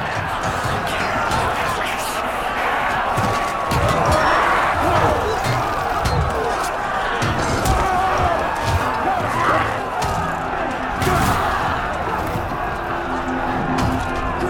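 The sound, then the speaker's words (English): A chaotic battle rages, with repeated heavy thuds, impacts and clashing blows as fighters punch, stab and hack at one another with swords, layered over shouting and grunting, the din staying loud and dense throughout. “Banquo punches and stabs his way forward as Macbeth hacks down the rebels who attack him from every angle.”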